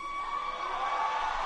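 A crowd screams and cheers in a loud, sustained roar of overlapping voices, steady throughout and swelling slightly toward the end, with no individual speech standing out.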